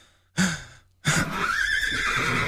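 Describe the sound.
A person imitates a horse with a short breathy snort followed by a longer, wavering whinny, loud, with no talking.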